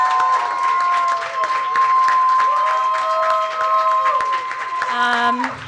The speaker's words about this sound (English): Also, very importantly, please, the biggest applause that you have in you, again, thank our wonderful guests,